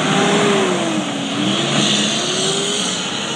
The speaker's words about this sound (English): Don't you love the sound of traffic? I do. That was a UPS truck taking somebody's packages places. Big old semi.